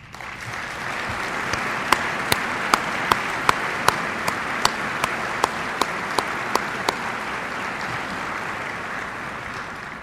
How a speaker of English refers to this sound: I wish to acknowledge all military spouses, partners, and families for their unwavering support given to their veteran spouses who proudly serve both of our nations. They deserve a huge round of applause.